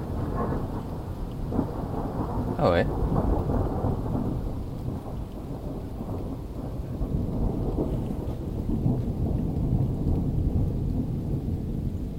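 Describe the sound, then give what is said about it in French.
A thunderstorm, recorded while someone tries to photograph it live, with steady rain hissing throughout and deep rolling thunder rumbling low and heavy, plus a brief sharp crackle early on. Someone briefly mutters once. “Alors on va essayer de photographier un orage en live.”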